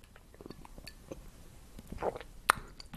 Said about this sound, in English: Let me take a sip of my tea.